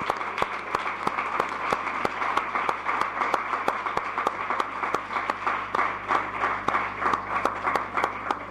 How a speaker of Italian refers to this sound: Grazie, un applauso.